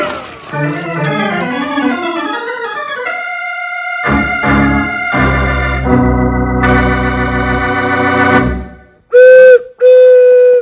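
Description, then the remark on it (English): A booming prairie chicken call: rich, warbling hoots that rise and fall in quick succession, then long droning tones, ending in two loud, sharp whistle-like blasts. No one speaks. “They call that the boomin' call of the prairie chicken. No other animal noise like it.”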